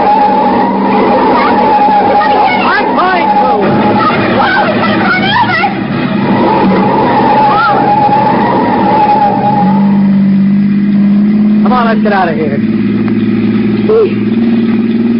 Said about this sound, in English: I'm going to pull him one side, slam on the brakes, and see what happens.